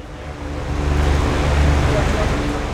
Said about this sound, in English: fans are working to blow heat out of the truck as Slater prepares an order